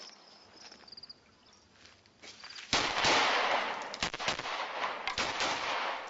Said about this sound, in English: But if you shoot while either moving in or simply lunging in, it'll make your shots that much more accurate. And now let's do it live fire.